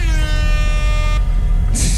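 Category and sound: sound effect, air horn sound effect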